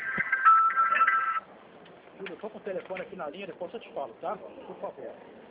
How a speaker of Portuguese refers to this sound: O telefone está tocando aqui.